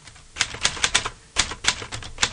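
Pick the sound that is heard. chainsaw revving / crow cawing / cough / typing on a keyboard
typing on a keyboard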